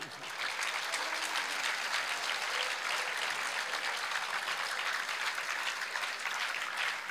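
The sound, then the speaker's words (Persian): An audience claps steadily for several seconds, a dense wash of many hands with no break, loud and even throughout before easing slightly at the very end. “حالا بس شما دوباره هم تشویقش کنید.”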